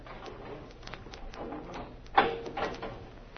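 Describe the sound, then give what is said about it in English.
A heavy steel door leading to a cell block is opened with a scraping, rattling sound that builds to a single sharp clunk partway through, followed by a brief metallic rattle, against a low background hum. “I'll get the door.”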